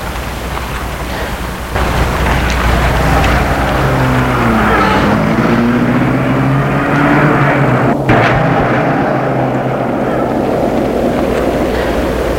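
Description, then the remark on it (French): A chauffeur gets into a car and starts it; the engine turns over and settles into a loud, steady rumble, its pitch rising and falling as it revs and pulls away into the night, with no voices. “Et le chauffeur rentre dans la voiture et la met en route.”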